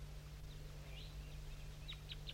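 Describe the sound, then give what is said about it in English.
Wild birds down in an oak tree give a few soft, high chirps, ending in three sharper, quick downward-sliding calls, all faint over a steady low hum, with no one talking. “And there's some wild birds I'm going to point to that are down still in that oak tree.”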